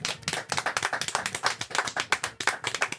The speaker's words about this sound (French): On l'applaudit très fort pour son retour à la radio. Ça n'est pas sur Radio Arc-en-Ciel, c'est dans Kitchenette qu'elle nous revient. C'est Isa Ferrer, on l'applaudit.